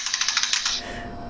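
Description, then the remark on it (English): A quick burst of about ten soft key presses on a membrane keyboard in fast, even succession, then the tapping stops and only a low background hum remains. “Is that your keyboard? What keyboard? My mechanical? No, your older keyboard, your membrane keyboard.”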